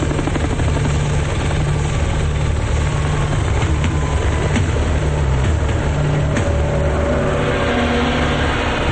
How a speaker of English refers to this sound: Shown from overhead, a helicopter speeds through the sky.